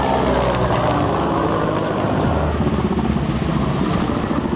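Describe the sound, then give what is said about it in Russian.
A loud, steady engine roar fills the air, a powerful military aircraft droning overhead with a dense rumble that holds for several seconds without any voices. “Было шумно, начали летать самолеты.”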